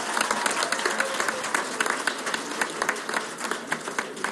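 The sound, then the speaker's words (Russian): A crowd applauds steadily at a diploma presentation, many hands clapping in a dense, continuous patter with crisp sharp claps standing out throughout. “Под ваши бурные аплодисменты!”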